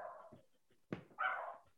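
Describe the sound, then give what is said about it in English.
Dogs bark in a short burst: a sharp, punchy bark followed by a longer, higher-pitched yelping bark, with a softer whine-like sound just before. No one speaks. “Even the dogs approve.”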